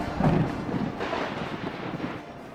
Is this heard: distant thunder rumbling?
yes